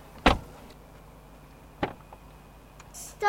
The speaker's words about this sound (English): closes the car door.